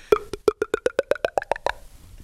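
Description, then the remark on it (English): A voice imitates a bottle of water being poured into a cup: a quick, steady run of about a dozen hollow plopping gulps whose pitch climbs as if the cup were filling, with no talking over it. “Do you want to hear an impression of a bottle of water going into a cup?”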